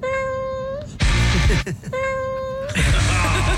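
A cat's drawn-out meows alternate with louder, harsher bursts over a continuous musical backing, forming a repeating pattern that sounds like a song built around the cat's cries.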